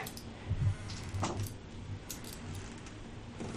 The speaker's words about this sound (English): I rolled 4 dice.